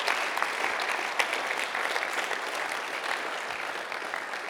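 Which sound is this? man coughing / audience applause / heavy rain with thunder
audience applause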